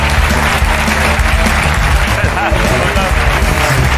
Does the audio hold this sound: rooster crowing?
no